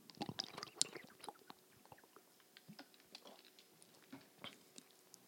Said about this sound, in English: I need a sip of water, sorry.